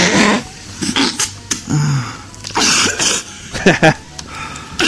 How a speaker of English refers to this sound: I love the cough because you can actually hear the cum in her throat.